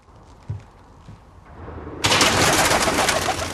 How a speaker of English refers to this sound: As they step outside, pigeons flutter off the building's rooftop.